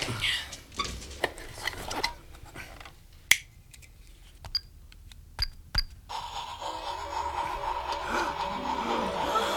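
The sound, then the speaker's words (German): A train starts to move and heads upward: a run of sharp, irregular mechanical clicks and clacks, then a steady rumbling hiss with a faint whining hum that sets in and holds. “Er fährt. Er fährt tatsächlich.”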